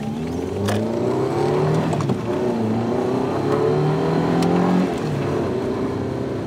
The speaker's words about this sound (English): Her car was in the station car park. It was an Audi TT. Nice car, I said. She drove fast. Very fast.